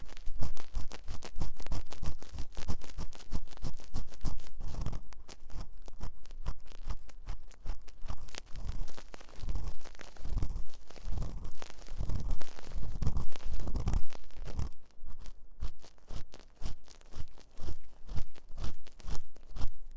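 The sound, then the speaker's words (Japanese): Ear cleaning with an ear pick: dense, crackly scraping and crunching, steady for the whole stretch with sharper scratchy bursts here and there. No one speaks. “勝手に私をかわいそうな人扱いする君にはお仕置きの耳かきだ。”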